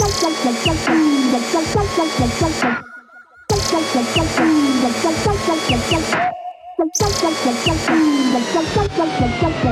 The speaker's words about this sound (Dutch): En over ergernissen gesproken, we hebben een bladblazer van de week.